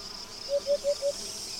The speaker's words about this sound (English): This sensation of dryness comes with the usual summer symphony made by the sound of cicadas.